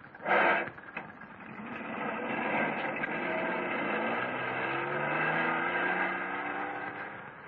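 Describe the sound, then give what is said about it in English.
A car engine starts with a short loud burst, then settles into a steady hum that climbs in pitch as the vehicle accelerates away, with no talking. “Okay, Grandpa, you drive this one. I'll drive his.”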